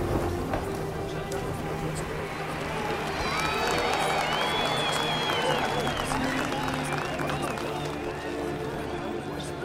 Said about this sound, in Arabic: تأملت ما كان واقعاً جراء هذا التهليل والتجمع الغفير للناس.